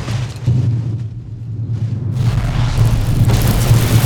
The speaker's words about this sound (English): The noise of the explosions as the mortar rounds hit unnerved her.